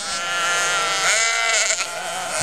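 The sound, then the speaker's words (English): Sheep bleat at Mint Creek Farm in Stell, Illinois, in a steady, overlapping chorus of wavering, nasal cries that rise and fall in pitch, fairly loud and continuous, with no talking. “We started with 50 acres and 10 head of sheep, and now we have sheep and goats”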